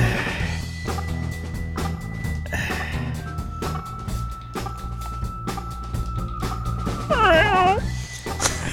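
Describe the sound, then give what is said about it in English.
A voice imitates a cat with a brief, wavering meow near the end, heard over a busy background of clicks and steady noise. “Let's just make cat noises.”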